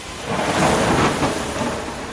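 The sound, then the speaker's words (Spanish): A loud thunderclap from an approaching big storm rolls out as a dense, sustained rumble filling the whole moment, with a noisy wash like heavy rain beneath it and no voices. “Este fuerte trueno llamó la atención de todos y recién ahí se dieron cuenta de que se acercaba una gran tormenta.”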